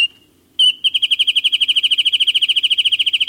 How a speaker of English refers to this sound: As storms and gray of winter give way to spring, nothing freshens the new season like the renewal of birdsong.